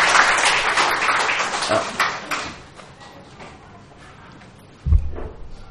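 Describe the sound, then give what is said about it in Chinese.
A burst of crowd applause for the Lord Jesus, dense and loud at first, then thinning out and fading over a few seconds, followed by a quiet stretch and a single low thump near the end. “我哋俾啲掌声主耶稣好嘛？”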